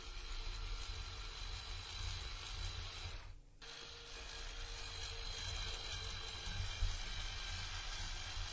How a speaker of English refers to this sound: And now he has the power drill. You got to do this close to the mic because I want everybody to hear this. This is too damn funny.